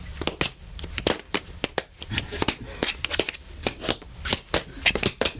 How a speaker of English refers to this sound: But you're actually doing is tapping your toes. Yeah, yeah, yeah.